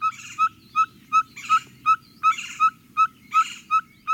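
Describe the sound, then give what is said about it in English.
A ferruginous pygmy owl in the Arizona desert gives a long series of evenly spaced, clear whistled toots, about three per second, repeated steadily, with other birds chattering faintly in the background. “Ferruginous pygmy owls.”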